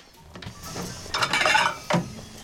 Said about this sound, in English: She fetches a bowl from a cupboard, smiling to herself and shaking her head.